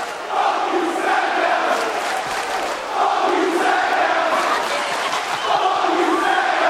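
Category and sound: crowd, wrestling crowd chanting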